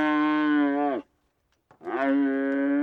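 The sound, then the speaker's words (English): A young heifer, a female cow that has not yet had a calf, moos twice on Phil Dart's ranch as green tattoo ink is swiped inside its ear to mark vaccination; each call a loud, drawn-out harmonic bellow lasting about a second, separated by a short pause with a faint rustle. “He swipes green tattoo ink on the inside of a cow's ear.”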